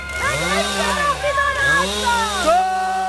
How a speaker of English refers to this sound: Police used chainsaws to break through barricades and pulled activists from the trees on cherry pickers.